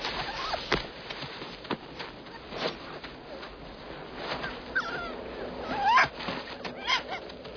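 A wolf-dog hybrid shuffles and rustles, with scattered soft scuffs and a couple of brief, high, rising whimpers near the end; no one speaks.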